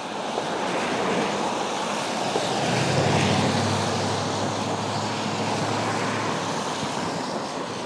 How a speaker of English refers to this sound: sorry for the loud traffic noise